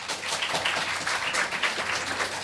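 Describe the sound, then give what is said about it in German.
Steady audience applause fills the whole stretch, a dense wash of many hands clapping at an even, moderate loudness with no voices breaking through. “Also, wir brauchen jetzt einen Applaus.”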